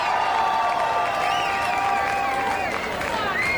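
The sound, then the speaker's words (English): A large crowd at a 50th anniversary party cheers and screams steadily, many high-pitched voices overlapping in a loud, continuous roar that holds for the full few seconds without pause. “They got to hear you scream real loud before they're going to come out here, all right?”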